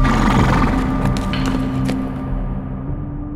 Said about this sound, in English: Onward, Blazer. Must go onward. Head down, the horse ambled on.